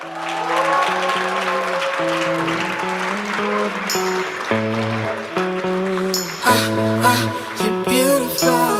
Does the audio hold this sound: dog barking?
no